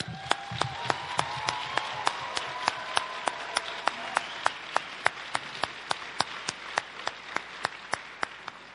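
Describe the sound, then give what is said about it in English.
A church audience applauds steadily, with a crisp unison clap landing in an even, quick rhythm about three times a second over a dense wash of scattered clapping, and a faint sustained tone early on. “Can we give him another applause?”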